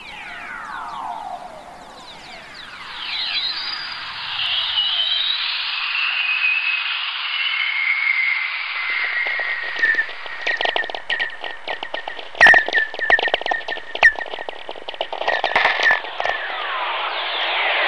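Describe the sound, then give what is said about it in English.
Lightning whistlers in a radio recording, electromagnetic radiation from lightning picked up by radio operators: eerie whistling tones glide downward over a steady hiss, then a dense burst of sharp crackles and pops builds toward the end, with no voices. “There are several million lightning strikes a day on the planet, which means there's a constant chorus of whistlers in the atmosphere around Earth.”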